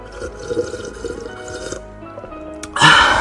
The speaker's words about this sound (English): let me drink a little bit more water. Hold on.